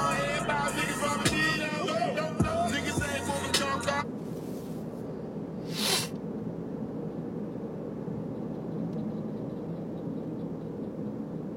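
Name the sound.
road traffic noise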